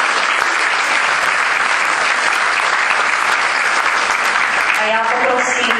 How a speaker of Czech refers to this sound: Potlesk pro Ministerstvo kultury.